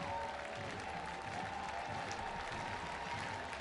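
A crowd of 5,024 fans at a Cyclones baseball game claps along, rising as one, in a dense, steady wash of applause, many hands beating at once with a faint rhythmic pulse and a low murmur of voices beneath, holding loud throughout.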